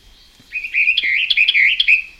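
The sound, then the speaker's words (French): A Western Orphean Warbler sings its French song: a steady, fluid warbling phrase of rich mid-high notes with quick upward flicks, loud and continuous for about a second and a half, with no talking. “Voilà son chant français.”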